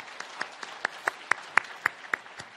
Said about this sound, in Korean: 박수로 환영하시겠습니다.